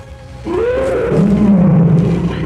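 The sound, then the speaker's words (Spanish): A Bengal tiger lets out a single loud, drawn-out roar that swells after a brief quiet start and rumbles on for about two seconds, with no talking. “decide recurrir a sus poderes de transmutación y en un instante se convierte en poderoso tigre real de Bengala.”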